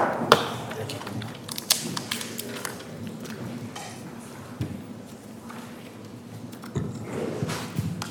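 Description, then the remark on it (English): People shuffling out of a courtroom after a case is submitted: scattered footsteps, soft knocks and rustling over a steady low hum, with irregular clusters of sharper taps and no clear speech. “Let's just wait for everybody to shuffle out of the room.”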